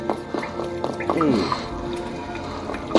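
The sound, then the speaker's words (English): Water drips fall one after another in a dark cave at an irregular pace, each drop ringing with a hollow, echoing plink against a low, steady background rumble. “Now down there, we have some water, which we are going to jump into.”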